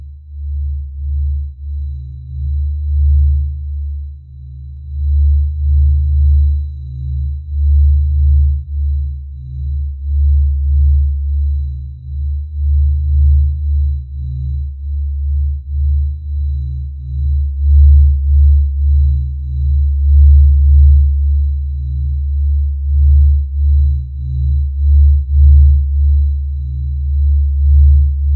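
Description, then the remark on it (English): Sonified sunspot radio data: several decades of sunspot radio signal data from solar physicists, processed into audio and sped up for radio's Pulse of the Planet. It is a deep, droning low rumble that swells in steady, rhythmic pulses like a slow heartbeat, continuous and fairly loud throughout, with no voices. “After the radio signal data was processed into audio files and the years were speeded up, it sounds like a heartbeat.”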